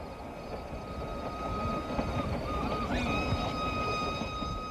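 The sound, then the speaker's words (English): A special modern air-conditioned passenger train, set up by the Indian government, rolls steadily along the rails in India, with a continuous low rumble and a thin metallic whine and squeal riding over it, fairly loud throughout, with no voices. “I thought of that caravan, of those bullock carts, a few nights later, when I joined a train.”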